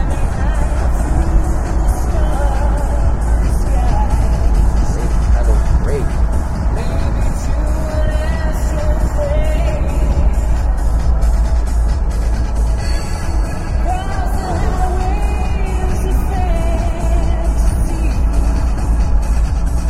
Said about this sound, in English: Really handles nicely, this car. It'll deal with the corner. It goes into corners nicely. The only issue is that you can't feel what it's doing. Okay, third gear, 3,000 RPM, 50 miles an hour.